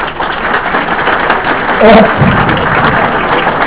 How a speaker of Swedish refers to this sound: Ta det med en applåd.